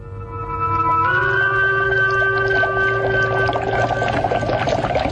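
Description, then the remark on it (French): Steady bubbling and churning water in a basin full of water builds up and grows busier after a couple of seconds, under sustained eerie, whale-like tones that glide upward and a low constant hum. “C'est vrai, sorcier Fifion, il y a des bulles dans l'eau.”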